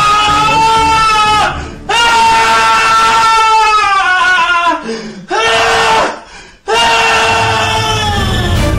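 A man screams loudly in long, strained bursts, several sustained wavering howls separated by brief breaths, harsh and piercing throughout.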